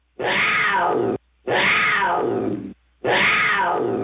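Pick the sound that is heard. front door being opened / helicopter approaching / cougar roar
cougar roar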